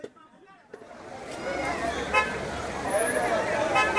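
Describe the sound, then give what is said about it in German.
Busy street traffic swells into a dense roar around the central market in Takoradi, Ghana, where taxis are jammed. Car horns toot briefly a couple of times, with a murmur of crowd voices in the background. “Rund um den zentralen Markt stauen sich Taxis.”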